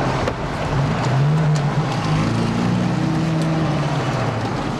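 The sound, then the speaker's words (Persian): A car engine revs hard, its droning pitch climbing as the vehicle speeds along, with steady road and wind roar filling the background throughout. “گاز بده، هرچی گاز بده به ماشین میره.”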